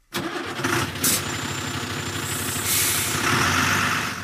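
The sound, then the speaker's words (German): A truck engine rumbles steadily, with a sharp hiss of air brakes releasing near the start and another longer hiss of air later as the engine keeps running and the driver accelerates off to the next stop. “Jetzt schnell aufs Gas drücken, auf zur nächsten Station. Auf unseren Straßen kämpfen Lkw-Fahrer jeden Tag gegen die Zeit.”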